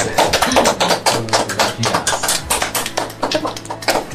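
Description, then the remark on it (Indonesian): A crowd claps steadily for about four seconds, a dense, bright patter of many hands with no clear rhythm, holding a fairly even loudness throughout, with a faint murmur of voices underneath. “Tepuk tangan dong buat.”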